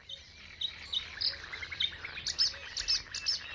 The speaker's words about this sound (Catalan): T'oferim poder gaudir del cant dels ocellets.